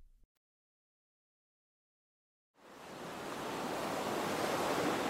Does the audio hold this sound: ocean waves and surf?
yes